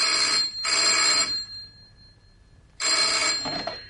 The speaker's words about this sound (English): Then late this afternoon, the phone rang.